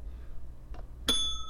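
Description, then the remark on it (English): A single bright ding of a small bell, struck once and left to ring with a clear lingering tone, preceded by a faint tap, with no one talking. “Where's my bell?”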